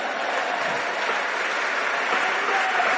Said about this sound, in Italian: al mio pubblico, un applauso per me.